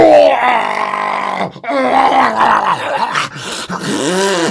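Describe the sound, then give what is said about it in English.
A voice imitates a monster roar: a loud, drawn-out growling groan with wavering pitch, broken by brief pauses into several rising and falling snarls over about four seconds. “Whereupon there was a terrible roar.”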